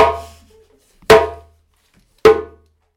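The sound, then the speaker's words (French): Three sharp, cracking djembe slap strokes, evenly spaced about a second apart, each bright and loud with a short ringing decay. No voices, just the drum. “Et claque, effectivement, tu peux rigoler, mais ça claque.”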